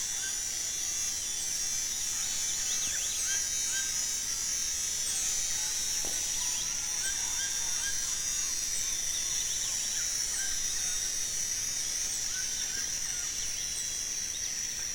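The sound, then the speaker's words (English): A steady, high-pitched insect drone fills the background without pause while howler monkeys and many birds call and chirp over it, a dense dawn chorus with no voices. “And this recording has that wonderful transition from the first flush of a dawn chorus with the howler monkeys and birds, and transition into the period when the first insects ratchet to life.”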